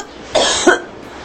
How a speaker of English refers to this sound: Oh, yeah, this guy just looped. This is his favorite cough, apparently. It really gets him off, but it's only like a second long, so he looped it over and over and over. It's just annoying.